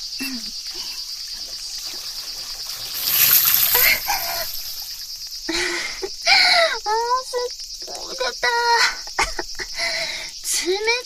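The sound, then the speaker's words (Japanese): Tap water runs steadily into a paddling pool, a continuous hissing trickle that swells louder for a moment, while high, sliding voices chirp and squeal over it. “じゃあプールに水溜めるね。”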